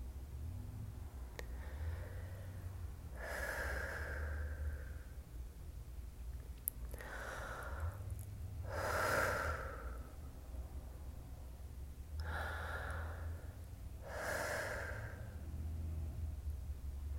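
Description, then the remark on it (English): A person takes three slow, deep breaths to let out tension, each an audible inhale followed by a longer exhale, over a faint low hum, with quiet pauses between them. “So first take 3 deep breaths to let out any tension from your day.”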